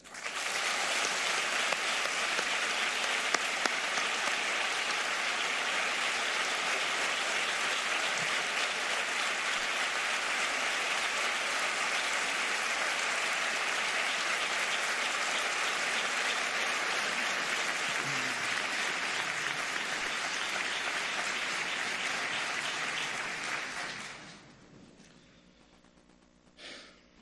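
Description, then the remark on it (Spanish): A theatre audience at a pregón applauds in memory of a man who has died: a steady, dense wash of clapping that holds loud for over twenty seconds, then fades out quickly near the end. No one speaks. “Paquito, a tu memoria las palabras de este pregonero y el aplauso más sentido desde este teatro, hoy hecho templo, en la cuna del mentidero.”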